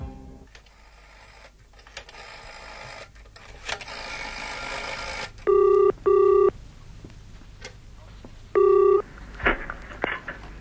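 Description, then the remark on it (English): Mechanical clicking and whirring of a public telephone being dialed, then a ringing tone sounds out in short steady bursts, a double ring followed by a pause and another ring, with no one speaking. “Would you have a public telephone?”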